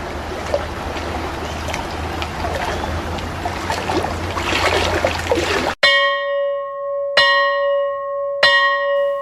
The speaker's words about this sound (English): A few hours later, the bell rang for break.